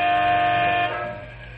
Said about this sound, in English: Three big transport trucks owned by Canyon City Truck Company are waiting for the freight to move so they can be on their way. Big Jim Mandel leans on his air horn as he grows impatient.